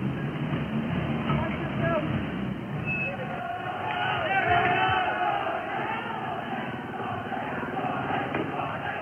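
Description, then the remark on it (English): A large crowd shouts and clamors as it moves through a street where a Renault car burns on its side, fires burn and windows have been smashed; a dense, continuous roar of many voices with louder yells rising and falling, swelling briefly toward the middle. “And crowd moving through the area.”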